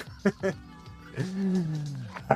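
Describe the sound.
A man imitates a dog barking with two quick, punchy woofs, then draws out a longer, growling bark-like howl before a final short woof, fairly loud.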